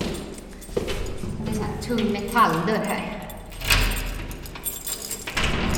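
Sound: bunch of keys jangling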